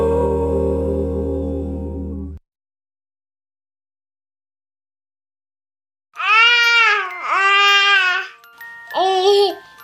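A baby babbles in loud, sing-song bursts with rising and falling pitch, three vocal stretches over several seconds, following a music fadeout and a short silence.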